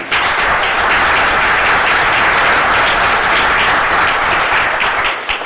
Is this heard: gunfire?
no